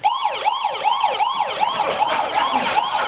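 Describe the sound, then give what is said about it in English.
A rapid wailing siren sweeps up and down repeatedly in a fast, steady yelp, loud and continuous with a slightly thin, electronic tone, and no voices. It is an MP3 sound effect played through a speaker on a radio control with 8 buttons at a model train layout, triggered when a child reaches over the fence toward the trains. “And then we have this set up on a radio control with 8 buttons so we can choose the sound.”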